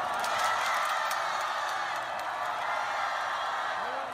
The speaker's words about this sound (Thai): ในวันพุธคณะเชียร์ลีดเดอร์เกาหลีเหนือและกองเชียร์ชาวเกาหลีใต้ได้ร่วมกันส่งเสียงเชียร์ทีมฮอกกี้หญิงของสองประเทศที่ลงแข่งขันภายใต้ธงชาติเดียวกันคือธงรวมประเทศ